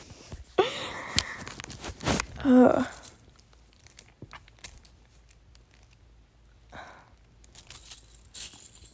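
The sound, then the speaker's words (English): Metal links jangle and clink in an uneven cluster as a bracelet is handled and taken off, with a few scattered taps afterward and brief voice sounds. “Take my bracelet off. That's what you've been hearing this entire time.”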